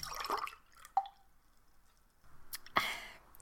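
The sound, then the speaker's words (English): Water splashes briefly into a glass, with a bright clink of glassware and a second louder splash near the end, all fairly quiet, with no one speaking. “Would you like a glass of water before we start?”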